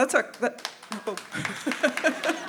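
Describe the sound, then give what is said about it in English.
A brief burst of audience applause, scattered claps mixed with laughter and voices, building briefly and then thinning out over a couple of seconds. “They're applauding sin, just to clarify.”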